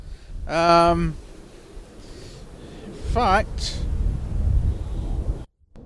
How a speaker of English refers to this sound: As you can probably hear, it's just a tad windy here in Norfolk.